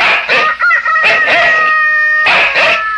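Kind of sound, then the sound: bird, rooster crowing at dawn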